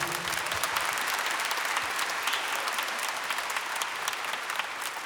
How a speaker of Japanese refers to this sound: 盛大な拍手を。